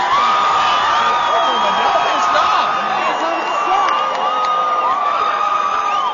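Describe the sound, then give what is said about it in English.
A large crowd cheers at a street victory celebration in Lexington, watched by police in riot gear, many voices shouting and whooping together in a steady, loud roar that holds for the whole stretch without a break. “Sounds like a party to me from here.”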